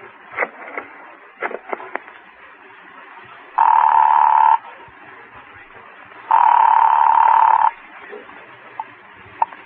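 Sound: telephone ringing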